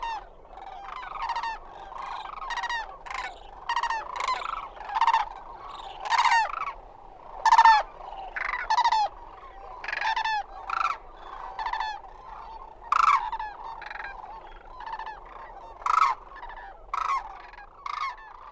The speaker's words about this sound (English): Imagine that it is early spring, at dusk along the Platte River in Nebraska. Listen as migrating cranes fly overhead, looking for a place to roost for the night.